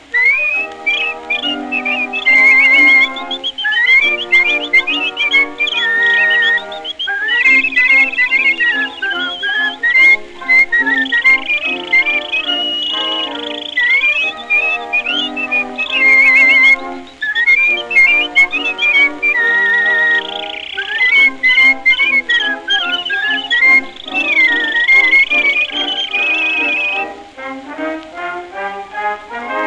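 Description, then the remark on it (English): Bright, warbling whistled melody imitating birdsong, played from a record, runs continuously over a full instrumental accompaniment, with trills and sliding high notes repeating in phrases, loud throughout. “As you pass along, and this love song you can whistle as you walk, walk, walk.”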